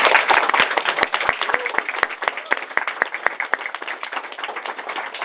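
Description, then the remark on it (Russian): An audience applauds for about five seconds, a dense patter of many hands clapping at a steady level with sharper individual claps standing out, and no speech over it. “Поэтому спасибо вам и теперь аплодисменты, приветствую.”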